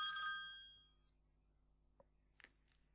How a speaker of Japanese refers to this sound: でですね、これがその電話番号がなるんですね、このように。そしたら電話に出ます。